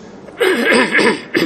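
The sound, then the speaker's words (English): A man clears his throat during a church sermon after a Gospel reading, in a couple of rough, voiced bursts, a longer rasping one followed by a short final grunt, with no words spoken. “Pardon me for clearing my throat.”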